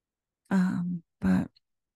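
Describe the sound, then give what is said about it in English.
A young child who is unwell coughs twice, two rough, voiced bursts separated by a short pause, fairly loud, with no talking around them. “I don't know if you guys can hear the coughing, but my little human is not feeling too great.”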